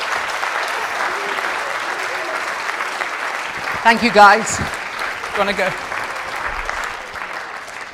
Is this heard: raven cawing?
no